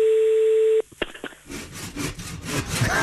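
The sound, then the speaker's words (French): A steady telephone dial tone hums for under a second as a call is placed to a slaughterhouse, cut off by a few sharp clicks, then a rhythmic rasping, scraping noise follows in repeated strokes. “On va essayer de comprendre cette affaire en appelant un autre abattoir.”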